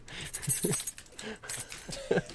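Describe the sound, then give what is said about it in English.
Keys are jingled in front of a camera in a few bright, metallic bursts, shaken on and off for a couple of seconds with brief pauses between shakes. “Is there any way that you could either put Subway Surfers on the screen or jingle keys in front of your camera every couple seconds?”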